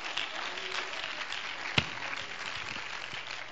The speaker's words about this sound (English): Oh, somebody ought to clap your hands to the Lord right now.